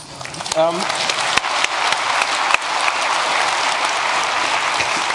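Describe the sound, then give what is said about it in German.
An audience breaks into applause for an audience member who knows what fenv.h declares, a dense crackle of many hands clapping that holds steady and fairly loud for several seconds, with a brief voiced shout near the start. “Applaus, es gibt einen.”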